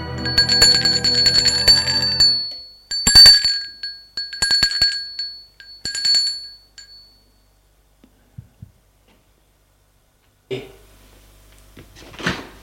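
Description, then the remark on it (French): A doorbell rings at someone's door at 5 p.m. in several bright, metallic bursts that shimmer and fade over a few seconds, followed by near silence, a couple of faint taps, and then some soft rustling clatter. “À 17h, l'on sonne à sa porte.”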